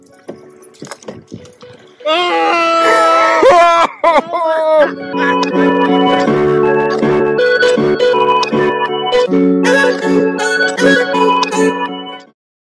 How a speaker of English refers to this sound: Oh, it's a pig!